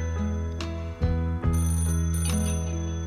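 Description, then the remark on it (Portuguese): A telephone rings with a steady, sustained electronic tone rich in harmonics, loud, with a couple of brief thumps partway through and no one speaking. “telefone pra você.”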